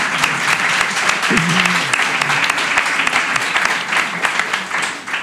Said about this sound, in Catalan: I si no sabeu què escoltar demà, podeu sentir el podcast que produeix amb altres companys, que és Radio Pólvora. Un aplaudiment també per a ell.